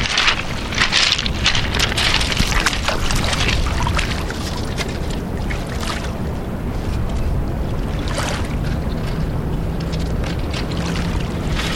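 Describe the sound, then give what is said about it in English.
Steady running and splashing water, continuous, with bursts of brighter sloshing as an ink drawing is moved through the flow and rinsed; no one speaks. “And you're just letting the water wash over what you've done.”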